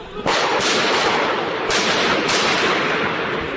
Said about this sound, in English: Gunfire recorded on a smartphone looking down at a street from a Paris rooftop.